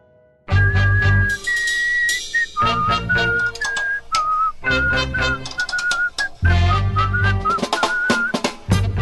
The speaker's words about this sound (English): Here, whistle it with me.